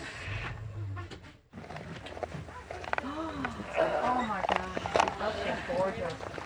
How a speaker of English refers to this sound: Oh my God. There's the tiger. Did you guys hear?